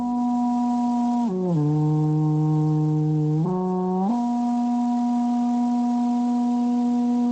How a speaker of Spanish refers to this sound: Con el sobrecogedor sonido de la bocina dejamos atrás el campo de Calatrava